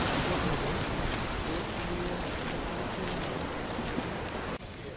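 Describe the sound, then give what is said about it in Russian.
A steady wash of moving water fills the scene on a popular waterfront street where people walk, with faint, indistinct outdoor murmur beneath it, on Columbus Day, a Monday; the rushing sound stays constant throughout. “Вот водичка, а вот улица идет.”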